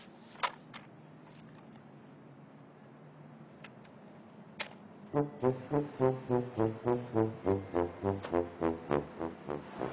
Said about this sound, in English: It's not a foghorn, that's a tuba.